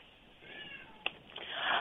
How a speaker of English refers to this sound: I'm sorry, I have a cat yowling.